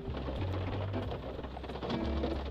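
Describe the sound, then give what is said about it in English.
Steady rain patters down throughout, a dense hiss of drops striking surfaces at an even, moderate level, with a low murmuring tone underneath and no one speaking. “And as you hear, it is raining.”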